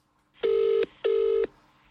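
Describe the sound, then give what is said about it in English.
Two steady electronic telephone keypad tones beep in quick succession, each lasting under half a second with a short gap between, as a phone number is dialed to call the registry office. They sound clear, with no voices. “Well, I thought it would be good, because we do a podcast about getting married, we should phone the registry office right now on the podcast and try and book it in.”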